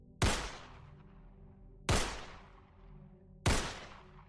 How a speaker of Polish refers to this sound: a gdy wystrzały rozbrzmiewają w lesie, słyszę, jak to coś ucieka.